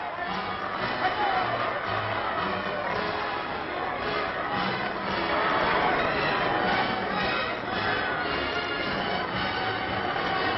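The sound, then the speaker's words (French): A large crowd cheers and calls out in a dense, continuous roar that swells louder midway, heard through a muffled, band-limited old recording; the crowd acclaims the marshal at the traditional Sunday-morning colours ceremony in the northern zone. “La foule, venue aujourd'hui plus nombreuse que de coutume, acclame le grand soldat.”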